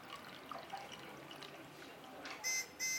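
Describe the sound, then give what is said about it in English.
Water from a kettle pours into a cup with a soft, steady trickling hiss for a couple of seconds, followed by two short, bright electronic beeps at the end. “I can hear the pouring of the water.”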